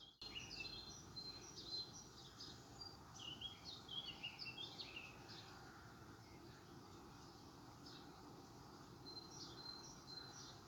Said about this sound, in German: Unüberhörbar zwischen all diesen Stimmen der Gesang der Vögel.